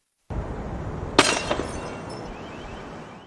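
A microwave is thrown out through a window of the Graduate Hotel. Glass shatters with a sharp, loud crash, followed by a second hit and a fading spray of tinkling shards over a steady background rumble.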